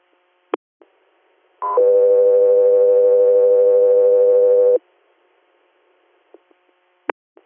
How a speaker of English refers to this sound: Mass 3 Air, standby for tones.